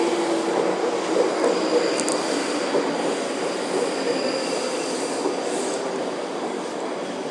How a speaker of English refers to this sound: Right, there is a train coming by the sound of it. Right, this sounds like the fast train. Good, good. We shall get on that.